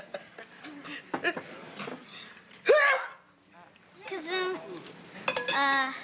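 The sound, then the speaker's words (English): A single sharp, loud sneeze bursts out midway, while voices talk before and after it. “Cousin, bless you.”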